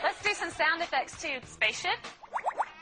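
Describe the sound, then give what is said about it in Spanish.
A parrot named Einstein, asked by its trainer, mimics a spaceship with a quick run of rising, warbling electronic-style sweeps, following a stretch of voice-like chatter; the sweeps are bright, fairly loud and come in rapid succession. “Aquí la entrenadora le pide atención, que imite a una nave espacial.”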